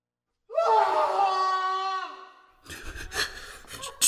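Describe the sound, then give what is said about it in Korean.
A single long, drawn-out scream from an interrogation room trails downward in pitch over about two seconds, followed by muffled shuffling and clattering noises, as heard by miners held in a police lockup. “유치장에 갇혀있던 광부들은 조사실에서 들려오는 비명을 들으며 두려움에 떨어야 했습니다.”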